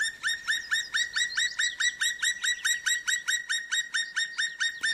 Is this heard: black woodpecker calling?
yes